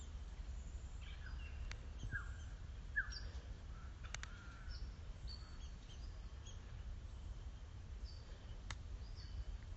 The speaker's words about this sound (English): It feels as if it's all the smaller birds that are out today.